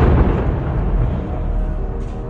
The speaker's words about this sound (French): Des sirènes retentissent dans tout le pays pour réveiller les habitants. L'armée israélienne déclenche des tirs pour intercepter les missiles. Au son des sirènes s'ajoute celui des explosions dans le ciel.